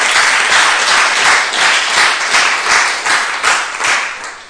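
A crowd applauds loudly and steadily, many hands clapping in a dense, continuous wash that swells slightly and then begins to taper off near the end.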